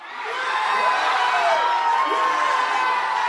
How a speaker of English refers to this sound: So I'm at Boston Beer Works. As you can hear, the crowd behind me is absolutely out of their mind. After watching one of the greatest Super Bowl comebacks in the history of the NFL